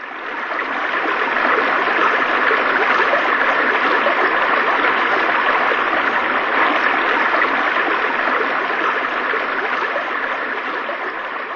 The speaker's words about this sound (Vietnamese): Chiếc thuyền vượt khỏi cửa đá và bay vào giữa dòng nước xiết.